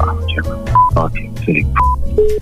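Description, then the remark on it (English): A phone number being dialed to ring a hotel: a quick series of short, clear beeping keypad tones at varying pitches, heard over a low humming background. “So what do? You ring them again.”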